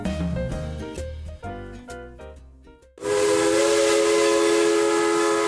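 A Cumbres and Toltec Scenic Railroad train rumbles along the tracks with rhythmic clatter, then a loud, sustained steam whistle blasts and holds steady for several seconds, dominant.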